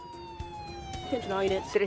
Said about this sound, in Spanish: Una patrulla de la policía y una ambulancia acuden a la escena.